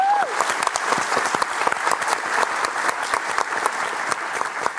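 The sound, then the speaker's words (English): Steady audience applause welcomes the day's guest as she comes up: a dense patter of many hands clapping, holding fairly loud and even for several seconds with no voices on top. “Round of applause for”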